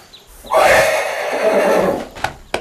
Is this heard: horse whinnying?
yes